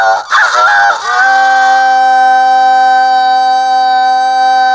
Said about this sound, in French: Je dois d'abord m'enfermer d'un lever de soleil à l'autre avec un coq blanc et de l'eau. Si au matin du deuxième jour, le coq chante, l'épreuve est réussie.